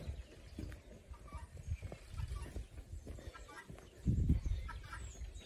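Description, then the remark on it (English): Chickens and guinea fowl cluck and chatter in a steady, overlapping stream, with a louder burst of clucking near the end over low rumbling outdoor background. “Chickens, guinea fowl.”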